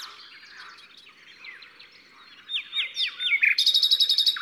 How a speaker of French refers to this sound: Il y a un autre rossignol au loin, et ils se répondent, ils s'écoutent.